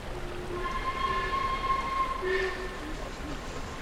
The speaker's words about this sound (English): The train! The midnight train! The midnight train was coming!